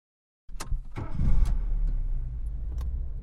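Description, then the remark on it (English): A car starting up: a few sharp clicks and clunks like keys and a door, then an engine turns over and settles into a steady idle rumble, with no talking. “In the car.”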